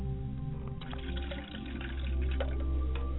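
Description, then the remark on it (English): Liquid is poured out steadily as a ritual libation, a splashing trickle with scattered drips over a low, constant background hum, with no voices. “I pour libations to the south, and I say Ashe.”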